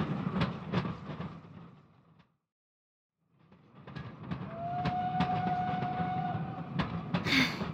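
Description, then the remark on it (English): A moving train rumbles and clatters over the rails with sharp rhythmic clacks, cuts out briefly, then resumes with a drawn-out metallic squeal riding over the steady noise. “Stop! Stop the train!”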